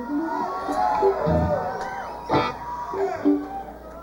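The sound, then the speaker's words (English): A concert audience cheers and whoops in a dense, sustained roar, with high individual shouts rising above the crowd and a couple of louder bursts of applause-like noise. “seem like a nice crowd.”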